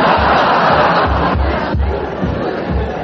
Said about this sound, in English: What? What's that? What's that? Oh. It's all right, Min. It's just those noisy people in the tent upstairs.